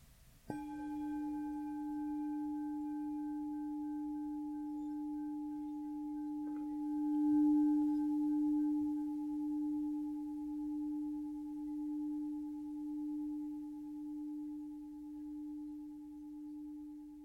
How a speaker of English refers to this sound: And then see if you can focus on the sound of the bell.